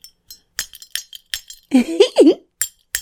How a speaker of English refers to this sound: And this little bell is just adorable. Don't you agree?